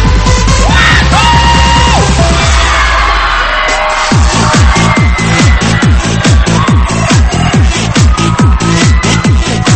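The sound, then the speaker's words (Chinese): A crowd screams and cheers loudly over booming dance music, with a steady pounding beat kicking in partway through and the shouts continuing on top. “You gather一段轻松节奏，带给你温婉的音乐唱腔，带上你的好朋友一起加入进来，来点尖叫声鼓励一下。”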